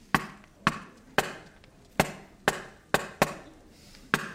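A series of about nine sharp, resonant knocks on a wooden door, struck at a fairly steady, unhurried pace with a couple of quicker pairs, each ringing briefly before the next.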